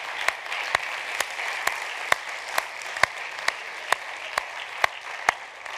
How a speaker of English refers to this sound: Can we give him a hand clap tonight? And can we give our youth a hand clap tonight?